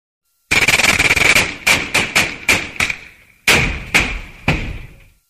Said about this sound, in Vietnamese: Đạn địch vẫn bắn cháo cháo vào cửa hang, quanh những cái thây sỏng sượt, đạn cắm chi chít, tóe từng bụng khói nhỏ cỡ bàn tay.